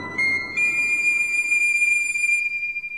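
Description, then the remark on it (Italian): A high, bright fife whistle, played by the mad piper, sounds on its own, stepping up in pitch early and then holding one long, steady, shrill note for a couple of seconds before fading. “Sì, cuccioli, lo conosco bene quel fischiettare melodioso. Non vi spaventate, è il pifferaio matto che suona il suo piffero.”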